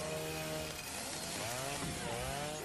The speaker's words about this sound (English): Everyone knows chainsaw beats wood. That's right.